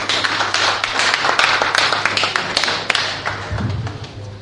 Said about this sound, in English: I believe that round of applause was for the recent one. Let's give one to the Lord.